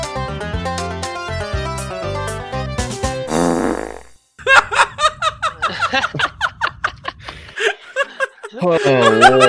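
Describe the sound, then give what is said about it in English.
A comedic song built from fart sound effects: a tonal musical intro, then rapid bursts of flatulent blats over a low rumble, with snickering and giggling mixed in, loud. “All right, hit them with the fart song.”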